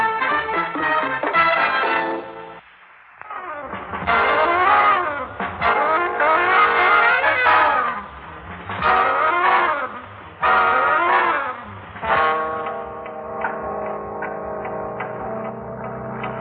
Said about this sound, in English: I think there's a car behind us. Men? Hey, men. Hmm? There's a car behind us.